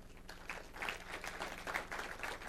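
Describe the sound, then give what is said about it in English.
An audience applauds together, giving God a clap: a steady, dense patter of many hands clapping at moderate volume throughout, without any voices rising above it. “I think we ought to give God a clap on that one.”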